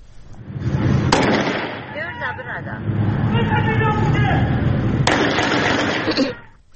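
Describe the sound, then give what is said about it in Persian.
Two loud, sharp handgun shots crack out about four seconds apart, cutting through a steady backdrop of street noise and murmuring voices. A young man in local dress fires a handgun at a Peugeot Pars car parked at the roadside, at Sepah crossroads opposite the Revolutionary Guards headquarters. “جوانی با لباس محلی دیده می شود که با سلاح کمری به سوی یک خودروی پژو پارس که کنار خیابان پارک شده است تیراندازی می کند و خود نیز هدف تیراندازی قرار می گیرد.”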